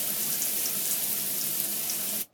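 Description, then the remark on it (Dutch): Shower water runs at home after football training in a steady, even hiss for about two seconds, then cuts off abruptly as the tap is turned off. No one speaks. “Dan gaan ze naar huis om te douchen.”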